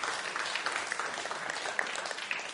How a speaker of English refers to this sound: I think deserves a round of applause. He had to work extra hard this evening.